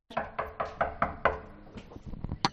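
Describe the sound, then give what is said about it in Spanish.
Six firm knocks on the door of a renovated apartment, formerly a gym, in the Aluche neighborhood, in a steady, evenly spaced rhythm, fairly loud, followed by faint shuffling and a few softer taps. “Y voy a llamar a su puerta.”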